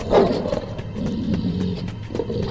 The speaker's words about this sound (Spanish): mientras escuchaba los gruñidos, cadenas y uñas que se sentían cada vez más cerca.